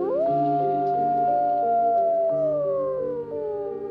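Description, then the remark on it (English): A gray wolf howls in one long, steady note that slowly sinks in pitch, with fainter overlapping tones beneath it. The howl is loud and unbroken, and no one speaks. “So this is where the wolves come in.”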